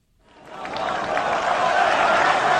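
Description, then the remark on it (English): A crowd of worshippers at a mosque in Khartoum, Sudan, applauds Egyptian President Morsi after Friday prayers. The dense clapping and murmur swell up within the first second and hold steady and loud, with no single voice standing out. “President Morsi received applause from a crowd of worshippers at a mosque in Khartoum, where he addressed them following Friday prayers.”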